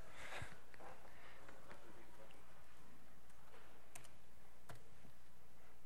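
Faint, irregular clicks of a presenter typing on a computer keyboard while talking during a presentation, scattered keystrokes with short pauses, over a low steady background hum.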